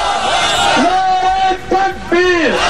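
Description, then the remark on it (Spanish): A crowd of protesters organized by the Muslim political group Jamaat-e Islami, carrying Bin Laden banners and anti-American placards, shouts and chants together loudly that Osama is alive, with rising and falling unison cries in a steady rhythmic pattern, continuous throughout. “Osama está vivo, gritan, porque muere el cerebro de Al-Qaeda, pero no el mito.”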